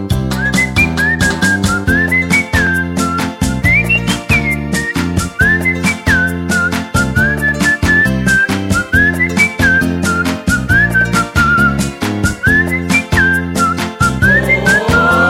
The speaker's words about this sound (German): Der Manager lässt sich nicht lumpen, schmeißt ihm was hinein und pfeift ein fröhlich Lied zu diesem 1000 Lire Schein.